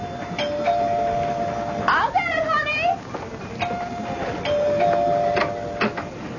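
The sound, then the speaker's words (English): A doorbell chimes on a June night with clear, sustained tones, sounding twice with a brief warbling noise between the rings, set against a faint background hum. “Daddy was in the study when the doorbell rang.”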